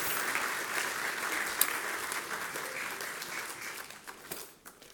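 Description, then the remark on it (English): An audience applauds with sustained, dense clapping that holds steady for several seconds before tapering off at the end, with a few stray claps standing out. “Give the Dumases a big round of applause.”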